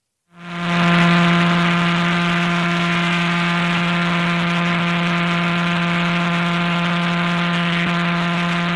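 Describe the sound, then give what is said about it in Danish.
A pulsar's rotation rendered as sound, from a star spinning 1000 times around itself per second: a steady, loud, buzzing low tone with a rich stack of harmonics, holding one constant pitch without pause for about eight seconds, with no voices. “Det her, det er en stjerne, der svinger 1000 gange rundt om sig selv på et sekund.”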